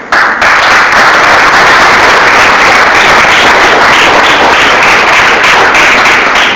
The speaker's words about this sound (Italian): Io ho capito il senso del vostro applauso e voi capite la mia emozione.